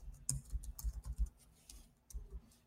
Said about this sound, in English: You hear that typing, folks? You hear that typing, folks?